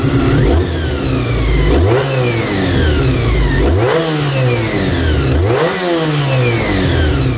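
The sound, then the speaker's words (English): A Honda NC30 motorcycle's V4 engine with cam-driven gears revs hard three times in succession, each blip climbing sharply in pitch and falling back, loud with a constant mechanical whine, no voices. “En ek wil net gou net speel gou vir ons daai klankgreep van hoe daai engine klink.”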